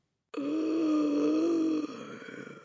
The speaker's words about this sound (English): Everyone in the place heard the gasp that came from the Trunchbull's throat.